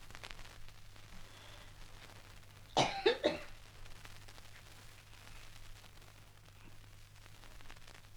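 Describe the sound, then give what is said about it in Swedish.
A short burst of two or three harsh coughs with some throat clearing, standing out against a steady low hum. “Jag pratar för jag hostar.”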